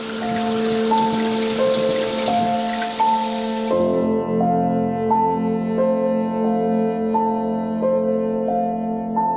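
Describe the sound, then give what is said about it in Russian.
Water from a holy spring runs and splashes steadily for the first few seconds, mixed with soft sustained music; the water sound then cuts off and only the music continues. “И вода там течет очень целебная, серебра очень много.”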